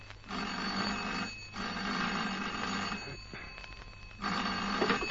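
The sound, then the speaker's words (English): An old-fashioned telephone bell rings loudly in an office on a Monday morning, in three long jangling bursts separated by short pauses, with no one speaking. “I was multiplying 48 by 7 when... I'm the phone.”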